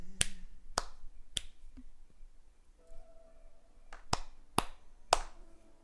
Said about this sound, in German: So, ich zeige euch mal den dümmsten NPC überhaupt. Richtig hängen geblieben, der Typ, ey. Vor allem, wenn man hier länger steht, klatscht er die ganze Zeit. Das ist abartig nervig.